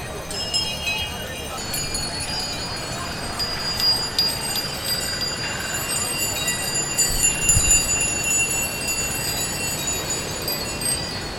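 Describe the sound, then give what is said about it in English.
Many small bells ring and jingle continuously, their bright overlapping tones sustained throughout over a steady low rumble of movement, with faint voices murmuring in the background. “Bells are for exorcism, for marriage, for warning, for purification, and we just thought that nobody had done that before”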